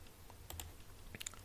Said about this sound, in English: When at last you reach the bottom of the bowl, all you can do is consume the last of the crunchy, dripping morsels.